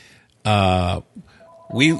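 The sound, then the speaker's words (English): A telephone gives one loud, steady electronic ring lasting about half a second, followed by a faint thin tone and a brief voice sound. “There's probably the lottery calling me right now.”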